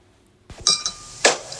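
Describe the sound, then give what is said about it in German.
A glass of water is set down on a hard surface in a café in Birmingham with a bright clink and a brief ringing tone, followed moments later by a second sharper clink, with no voices. “Ein Getränk, Sir? Wie wär's mit einem Glas Wasser? Gerne.”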